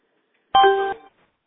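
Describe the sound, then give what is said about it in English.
A single bright electronic chime, a short tonal ding with clean harmonic overtones that rings for about half a second and then cuts off, clear with no talking; a conference call chime sounding as someone joins the meeting call. “So I guess the public, when they join us, is just going to chime after all.”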